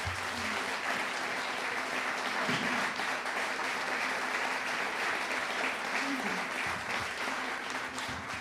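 An audience applauds in a sustained round of clapping, a dense, steady wash of many hands lasting several seconds without a break, with faint voices mixed underneath.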